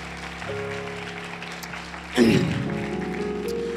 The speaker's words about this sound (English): Y'all can give her a round of applause.